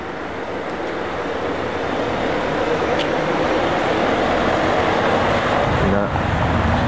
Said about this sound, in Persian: اه ماشین پلیس داره اینجا رد میشه، ببینیم که بهمون گیر میده یا نه.